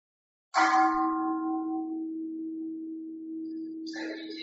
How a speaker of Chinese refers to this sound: 敲钟之后就还剩下十分钟，耳朵听到声音了之后我们的心是怎么样子的？